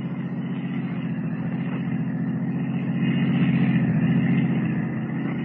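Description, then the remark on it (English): A taxi cab's engine rumbles steadily, a low throbbing drone that grows a little louder midway as it pulls off to follow a blue roadster, with no voices. “Rather than risk detection by trailing the girl as Superman, Kent steps into a waiting taxi cab and follows her.”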